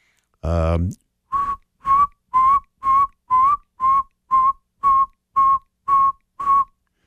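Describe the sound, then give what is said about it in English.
Outdoors at night around 9:30, a person whistles an imitation of a saw-whet owl call, a steady series of about eleven short, evenly spaced mid-pitched toots, clear, after a brief voiced sound at the start. “And so I whistled the saw-whet owl call, and I didn't hear anything.”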